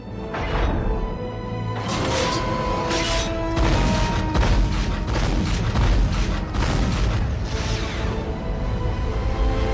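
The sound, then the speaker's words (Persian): A loud, dense barrage of booming explosions and rapid anti-aircraft gunfire bursts fired from a ship at an incoming target, continuous for the whole stretch, with a steady mechanical drone humming beneath the chaotic blasts. “آماده؟ حالا انفجار. به هدف برخورد نکرد. سوپ ضد هوایی استفاده کنید. آماده شلیک. آماده؟ آتش.”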